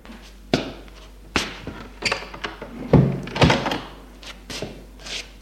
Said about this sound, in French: Il le fait entrer et ferme la porte.